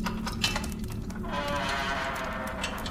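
A jailer opens a heavy prison door, which creaks open with a long, grinding squeal that starts after a brief clank and carries on steadily, fairly loud, with no voices.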